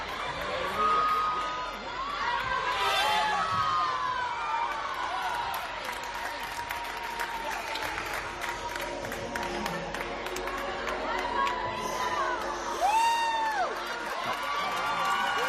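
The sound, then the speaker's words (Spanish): A crowd in the sports hall of Los Realejos, Tenerife, applauds and cheers steadily at an end-of-year rhythmic gymnastics exhibition, as the uniformed parents of the club's girls perform a choreography with rhythmic gymnastics hoops; excited shouts and high whoops rise over a constant wash of clapping and chatter. “Bueno, aplausos, emoción, porque en ese pabellón los padres de las niñas, uniformados, ellos, no las niñas, con un aro de gimnasia rítmica, realizaron una coreografía con esta música que está sonando.”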